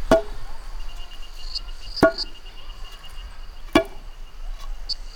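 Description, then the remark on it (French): Sharp metallic strikes of two hammers driving an iron tire onto a wooden wheel ring out at a slow, steady pace, three hard blows about two seconds apart, each with a brief ringing tail, over a faint background of chirping insects. “Tes arrière-grands-pères enfoncent le bandage en fer sur les roues de bois. Cette puissance du rythme, cette danse à 2 marteaux concorde à la danse à 2 pilons de tes arrière-grand-mères.”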